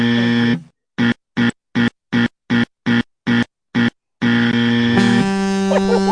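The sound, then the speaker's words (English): A harsh electronic buzzer drones, breaks into eight rapid, evenly spaced bursts, then settles back into a long, steady, loud buzz. No one speaks. “Please buzz me again one more time.”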